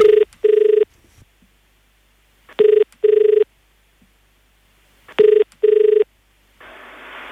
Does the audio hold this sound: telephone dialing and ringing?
yes